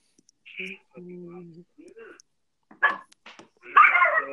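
puppy whimpering and barking

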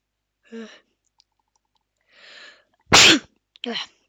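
sneeze

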